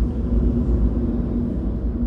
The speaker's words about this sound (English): Another, the roar of a vehicle's engine. Some of these recordings have been slowed down and processed, resulting in a low-end rumble and drone. It's like an ocean of noise.